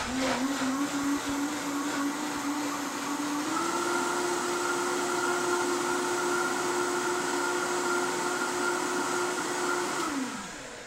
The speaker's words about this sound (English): Okay, gonna just put the blender on.